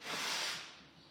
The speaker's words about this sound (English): I'm just going to need to blow my nose.